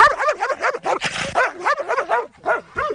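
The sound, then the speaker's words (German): A dog from the Wittenwetter-Herdecke animal shelter barks rapidly, a continuous run of about a dozen high, yappy barks with a whiny edge, loud and with no pauses between them. “ist ein Hund aus dem Tierheim Wittenwetter-Herdecke.”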